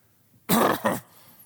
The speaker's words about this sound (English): Anybody? Where's the cough there?